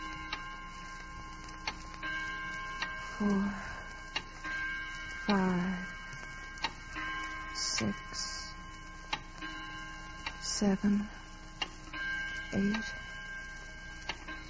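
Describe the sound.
A clock ticks steadily at a slow, even pace, each tick sharp and distinct over a faint steady hum, with a few brief murmuring voices breaking in now and then.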